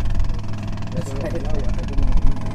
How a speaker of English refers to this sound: During the several hours we were on the river, the only sign of law enforcement were four green-uniformed Coast Guardsmen putting along in a John boat with an inboard motor.